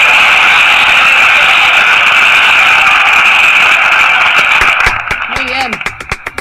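crowd, audience applause

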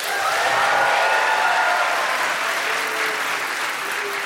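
crowd, audience applause

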